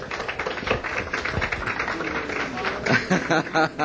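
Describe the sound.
An audience at the Half Note applauds a band during a live radio broadcast: dense, steady clapping throughout, with voices mixed into the crowd noise and a few brighter claps near the end.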